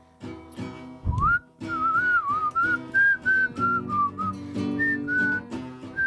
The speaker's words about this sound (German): Also, los geht's, ich pfeife vorneweg.